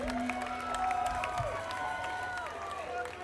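An audience at a show applauds and cheers, dense clapping holding steady for a few seconds with sustained whooping voices and whistle-like tones rising above the crowd.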